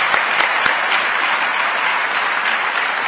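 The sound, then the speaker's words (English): A steady wash of audience applause welcoming the Union Minister Shri Sripad Nayak as guest of honour, many hands clapping together at an even, sustained loudness for a few seconds, with no voices over it. “Today is a very, very auspicious day when we have with us a very important guest, and that is the Honorable Union Minister Shri Sripad Nayak, who has consented to be the guest of honor today, and we welcome him amid service with a round of applause.”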